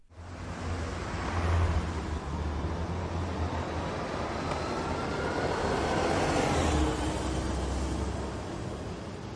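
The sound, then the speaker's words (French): A bus engine rumbles steadily with a deep low hum and broad whooshing noise, swelling slightly as it passes, with no voices over it. “Ah, c'est le bus que je dois prendre.”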